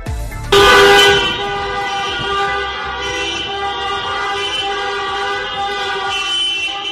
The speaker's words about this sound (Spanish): Son las calles de Zafra, con cientos de vehículos haciendo sonar sus claxon en señal de protesta por la escasez de ayudas ante los cierres de sus negocios.